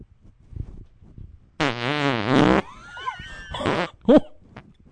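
A loud, buzzy fart rumbles for about a second with a wobbling pitch, followed by squeaky whistles and a few short sputtering bursts.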